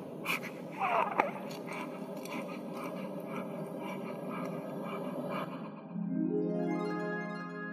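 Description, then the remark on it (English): Soft, quick snuffling breaths of a newborn baby girl, faint, repeating in a rapid uneven rhythm; a steady low humming tone joins near the end. “Now we've got this lovely, beautiful baby. You can hear her breathing.”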